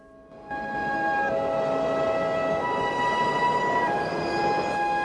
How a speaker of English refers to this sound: Hearing a tube train arriving at a platform, she hurries to catch it, pushing past others on the travelator.